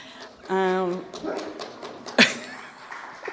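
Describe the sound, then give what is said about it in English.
A dog lets out one drawn-out, tonal bark, loud against a quiet background, followed by soft background rustling and a single sharp click. “The dog said hello.”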